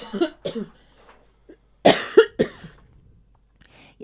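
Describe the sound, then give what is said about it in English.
A person coughs repeatedly in two bursts: a couple of quick coughs, a pause, then three harsher, louder coughs close together, followed by quiet breathing. Clear, with no talking. “Watch me, I'm going to cough.”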